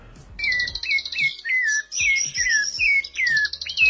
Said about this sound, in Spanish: Ah, lo escuchamos, lo del zorzal. Ahí está. El zorzal.